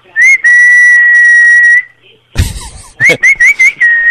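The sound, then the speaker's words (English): Loud, high-pitched whistling over a phone line: a long steady tone, a brief burst of rough noise, then a quick run of short rising whistles settling into another sustained note. “I think he was whistling nuclear launch codes.”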